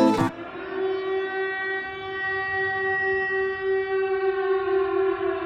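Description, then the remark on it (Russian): An air defense siren wails in a long, steady, loud tone that holds one pitch for several seconds, opening with a brief sharp burst of noise. No one speaks. “Как я здесь оказался, во что я ввязался, слышу снова орёт ПВО.”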